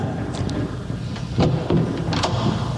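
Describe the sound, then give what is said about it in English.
Several knocks on a door arrive in loose pairs with short pauses between, moderately loud against a steady low rumble of background noise, and no one speaks; a Sports Radio 1310 The Ticket crew is knocking to wake the person inside. “Now I'll try just knocking on the door.”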